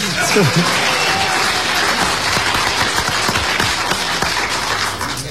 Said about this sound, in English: How many of you were here for that? Oh, good number, good number. The rest of you can clap, go ahead.